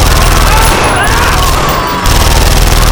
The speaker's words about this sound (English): Erickson stared in amazement at Lang, who put his burnt leg back up on the pack and, smiling, resumed feeding the belt of 9mm slugs into the machine gun.